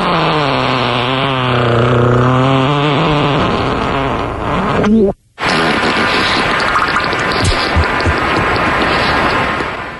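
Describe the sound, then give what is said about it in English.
A voice imitates two farts: first a long, buzzy, wavering raspberry lasting about five seconds as a backwards fart, then after a brief silence a rougher, sputtering, noisier blast as a beaver fart that keeps going loudly to the end. “So how about a backwards fart, then a beaver fart”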